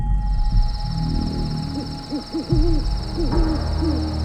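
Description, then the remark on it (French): Owls hoot repeatedly at night in the countryside in a series of short, rising-and-falling low calls, some overlapping, over a steady high-pitched insect-like chirr and a low rumbling background. “Les chouettes ululent.”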